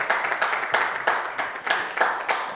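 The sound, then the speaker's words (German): A crowd applauds steadily for two people being introduced for baptism, many hands clapping in a dense, crackling wash that swells and dips in rhythmic surges, moderately loud with no voices. “Ich würde sie gerne vorstellen und bitte euch nochmal euren kräftigsten Applaus gleich rauszuholen”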